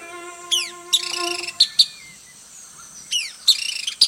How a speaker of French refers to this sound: C'est un mâle manakin à tête d'or, Ceratopipra erythrocephala. Il pèse environ 10 grammes. Il a un corps compact avec un cou court et une queue courte, mais il déborde d'énergie. Il chante un piou, sifflet aigu.